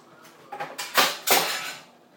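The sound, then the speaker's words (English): Beans bubbling in a pot: a handful of soft, hissy pops and gurgles over about two seconds, swelling into a louder spattering burst before fading. No one speaks. “You can hear them bubbling.”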